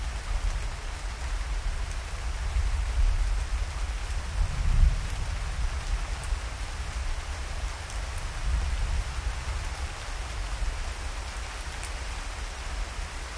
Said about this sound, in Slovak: Počúvať príjemné zvuky dažďa, ktoré same od seba uvoľnia tvoju myseľ.